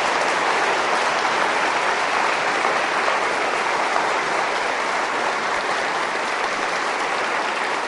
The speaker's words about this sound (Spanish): Él se llama Juan Pablo II y yo pido, al cumplirse ya un año de su beatificación, un aplauso de amor para ese gran hombre.